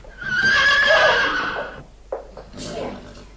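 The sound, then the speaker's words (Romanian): A horse whinnies loudly for over a second outside a window, its shrill, wavering call rising and falling, followed by a few softer snorts and shuffling sounds. “Ce e niște cu fereastra? Un cal.”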